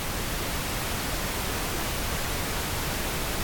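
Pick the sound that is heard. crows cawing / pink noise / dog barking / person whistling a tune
pink noise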